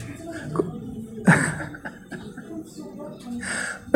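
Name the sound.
cough and throat clearing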